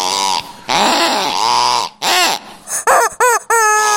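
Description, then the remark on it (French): A squeezed plastic toy chicken named KFC, bought in a shop as a travel mascot, lets out loud, strained squawks: long wavering honks followed by a quick run of shorter, rising-and-falling squeals, with no one talking. “vous l'avez entendu, là, il gueule un peu parce qu'il a pas eu ses croquettes”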